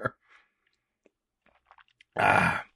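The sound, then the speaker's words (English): Someone takes a sip of water: a soft thump, quiet wet mouth clicks and swallowing noises, then a loud, breathy exhale-like rush at the end. “I'm already going to have to take a drink of water.”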